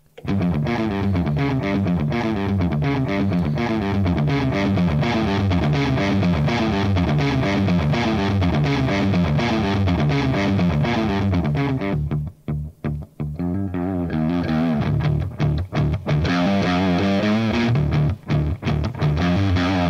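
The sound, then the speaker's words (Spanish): An overdriven electric guitar, played through a very clean Fender amp with its drive turned up, plays a loud, continuous riff with gritty saturated tone, steady rhythmic chords and notes, ending with a few choppy stabs and brief pauses; no talking. “Pues se escucha más distorsionado de lo que yo creía, pero realmente es más una saturación, literalmente.”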